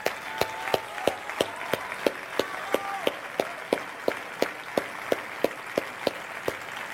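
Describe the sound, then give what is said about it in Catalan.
Audience applause for the festival team on a festival's closing day: a continuous wash of clapping with sharp, evenly spaced claps cutting through in a steady rhythm, roughly three per second, throughout. No one speaks. “Un aplaudiment per a l'equip.”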